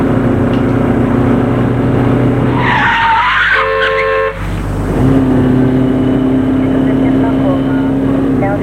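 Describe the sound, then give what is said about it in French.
A taxi's engine hums steadily, then brakes squeal sharply for about a second and a half as it pulls to a stop in front of a man's home in Paris, before the idling rumble carries on. “De faire arrêter son immeuble, son taxi devant chez lui.”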